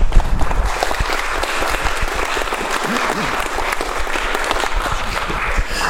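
A crowd applauds steadily for several seconds, a dense, even patter of many hands clapping at a fairly loud level, with faint murmuring voices underneath.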